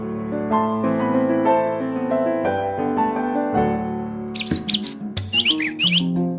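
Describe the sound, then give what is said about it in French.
Steady, sustained melodic music plays throughout, then a flurry of bright bird chirps and tweets breaks in over the final two seconds, rising above the music. “Une fois sur mon marronnier, une fois à grappiller des baies, une fois à survoler le lac et d'autres à piailler avec mes collègues piaf.”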